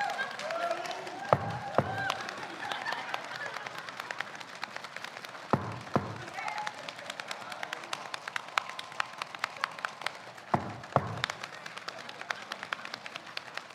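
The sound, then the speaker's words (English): A large standing audience makes a rainstorm with their bodies: dense, rapid finger snapping, clapping and pattering like heavy rain, broken by several deep, rumbling thumps of stomping feet that mimic thunder. “Where's that thunder?”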